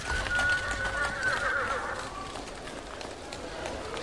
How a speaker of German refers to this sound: Schon bevor die ersten Autos gebaut wurden, herrschte in den Straßen der großen Städte lebhafter Verkehr. Viele Pferdefuhrwerke, Pferdeomnibusse und Droschken waren unterwegs.